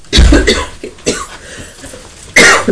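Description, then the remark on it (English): A woman coughs in a few harsh bursts, a cluster at the start followed by another sharp cough near the end, with no talking. “Mummy's coughing as well, but Alice was barking because the postman came.”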